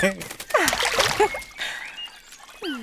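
A short burst of water splashing and sloshing as swan chicks hop into the water to join their parent swans and swim away, mixed with high swooping vocal sounds before and after the splash.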